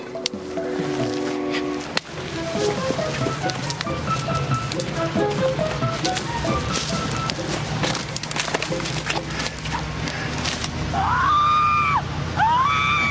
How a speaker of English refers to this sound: And speakers, look at them. Very clever. They record the screams and then play them back to scare people out of the hollow